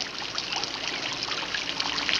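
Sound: trickling water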